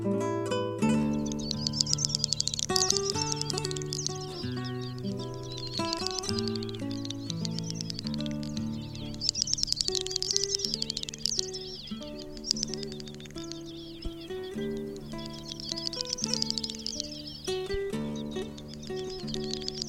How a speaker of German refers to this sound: Das war die Doppelschnepfe.